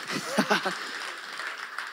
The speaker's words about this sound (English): So thank you for bringing that word. Oh, clap, yeah, that was beautiful.